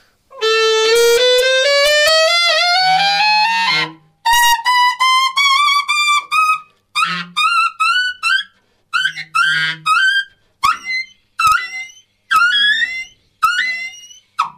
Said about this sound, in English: Dog whistle register.